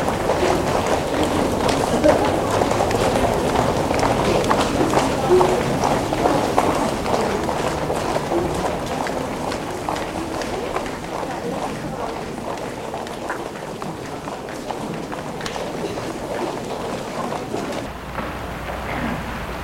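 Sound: running footsteps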